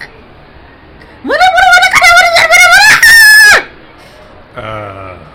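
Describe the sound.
A loud, ear-piercing scream-like screech in the background rises sharply and holds for about two seconds, shrill and strained like a rooster's crow, followed moments later by a fainter, lower voice-like sound.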